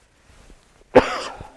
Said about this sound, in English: Excuse me, I didn't have a cough till I got up here.